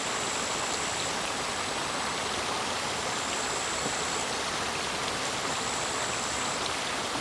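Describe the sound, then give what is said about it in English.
A steady, unbroken rush of water flowing in a polluted, dirty stream fills the whole recording, dense and hissing, with faint high-pitched tones drifting in and out above it. No one speaks. “And this water body that I sit right now with you, we all listen to it together.”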